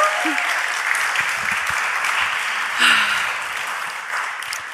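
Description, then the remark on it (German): Steady applause from a live audience at a live show at Kampnagel, a dense wash of clapping with occasional brief cheers or voices rising above it. “Habt ihr schon geklatscht?”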